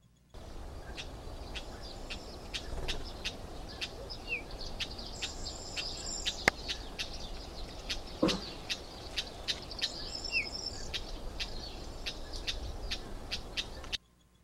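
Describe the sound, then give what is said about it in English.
Cyprus wheatear, a small passerine bird, singing: a steady series of short, dry buzzing notes repeated about twice a second, with two brief higher twittering phrases, over a constant background hiss. “And the bird is Cyprus Wheat Ear.”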